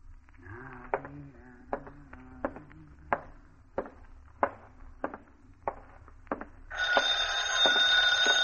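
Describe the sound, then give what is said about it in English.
A telephone bell starts ringing loudly and continuously near the end, following a stretch of sharp, evenly spaced clicks over a low wavering tone. “Somebody get the phone?”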